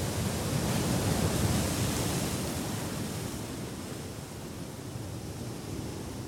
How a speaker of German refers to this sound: Eine Wanderung, die dich zum Ufer vom Meer führt. Ein sehr schöner, warmer Tag. Lass dich dort das Spiel der Wellen geniessen.